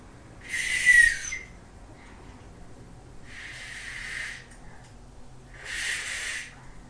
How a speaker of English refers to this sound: blowing the whistle.